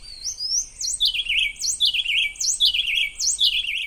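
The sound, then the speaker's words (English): A young bird and its parent sing a rapid duet in a Costa Rican forest, the youngster having learned to take turns, trading high chirping notes and lower warbled phrases in quick alternation, clear with no voices, repeating about four times. “Again, for reference, here's the improved version when the bird had learned to take turns.”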